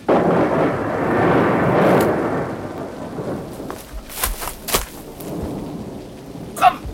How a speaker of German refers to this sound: Wir müssen weg! Das Gewitter hier lebensgefährlich!